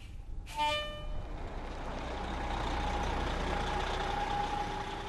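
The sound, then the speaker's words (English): A public bus idles at Eldora with a steady low engine rumble, broken near the start by one short, sharp burst, like an air brake hiss or a brief horn-like toot, as it waits to take out-of-state visitors down to Boulder. No one speaks. “A public bus waits to take out-of-staters down to Boulder.”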